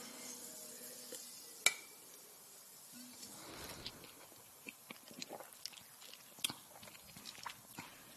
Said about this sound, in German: Und ich finde ihn sehr verführerisch und lass uns doch mal anstoßen. Ich glaube, ihr könnt neidisch sein. Ein schönes Klingen.